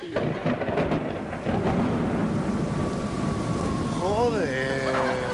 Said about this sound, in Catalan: Home, no es pot, perquè plou, i quan plou cau aigua.